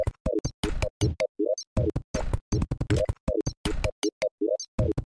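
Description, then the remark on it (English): Short video game menu open and close blips repeat in a quick, steady rhythm, chopped and sampled into a looping beat alongside punchy percussive hits, loud with no talking. “Then I'm gonna use the menu open and close sound.”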